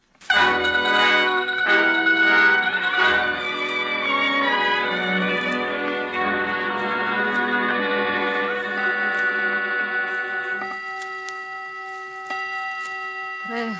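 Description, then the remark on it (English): A clock running a couple of minutes slow strikes the hour with a series of loud, ringing bell tones at a slow, steady pace, each overlapping the last, then the rich resonance fades to a thin hum. “Is the clock right, Laura? No, it's a couple of minutes slow, Margherita.”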